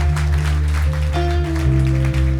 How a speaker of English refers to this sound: Big round of applause.